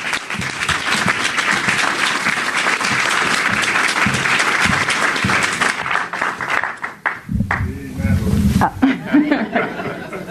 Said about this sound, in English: And can we please give a big round of applause